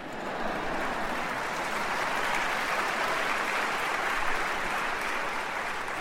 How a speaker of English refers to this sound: I'll take 4 claps today.